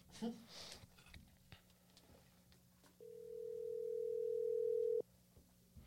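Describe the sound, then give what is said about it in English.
A single ringback tone from an outgoing phone call placed to a guest, a steady electronic hum lasting about two seconds and growing slightly louder, preceded by faint rustling and background noise. “Answer the phone mad fast, go.”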